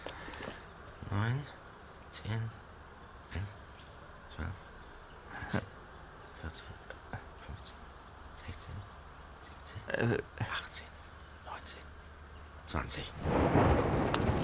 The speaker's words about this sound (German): 21 Sekunden. 7 Kilometer. Mal sehen, wie lange es beim nächsten Mal dauert. Dann wissen wir, ob das Gewitter in unsere Richtung zieht.